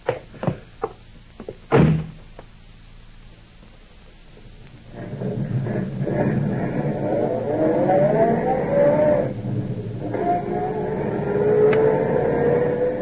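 After a few clicks and a solid door slam, a car engine rumbles to life and revs steadily, its pitch climbing as it pulls away. Fairly loud, with no talking.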